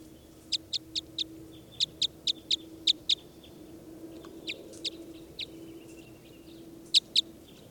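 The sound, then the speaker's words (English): A bird repeats short, sharp, high-pitched call notes in quick bursts of four to six, then a few scattered notes and a final pair, over a faint steady low hum. “Start recording bird 396.”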